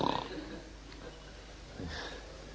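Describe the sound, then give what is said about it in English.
A voice imitates the snoring of a boy who fell asleep on the floor while fanning during a class, with two rough, nasal snorts, one at the start and another about two seconds later, moderately loud. “The boy who was fanning was snoring.”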